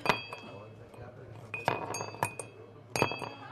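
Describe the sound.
A 73-year-old man in an elegant suit drops ice cubes into a crystal whiskey glass, making several bright, ringing clinks spaced irregularly, each leaving a clear resonant tone that lingers, with faint voices murmuring in the background.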